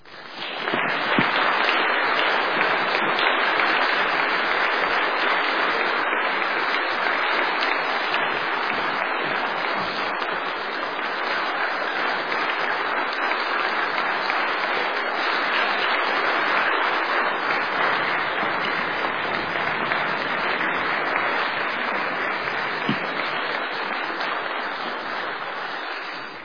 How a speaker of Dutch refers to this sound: En misschien hoort daar dan ook wel een daverend en warm applaus bij.